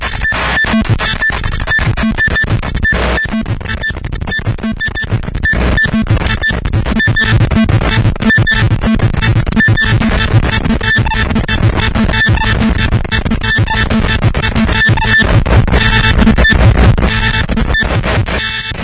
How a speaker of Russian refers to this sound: А вот, кстати, и матричный принтер мы можем услышать.